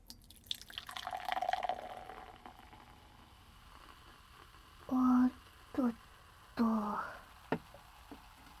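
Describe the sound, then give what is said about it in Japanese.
A fizzy drink is poured into a glass, a soft bubbling hiss that swells and fades over a couple of seconds. A voice then mimics the fizzing in short bursts. “シュワシュワ。”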